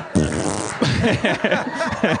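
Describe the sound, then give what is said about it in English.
A loud fart rips out for about half a second, followed right away by a few bursts of snickering laughter. “Fart break.”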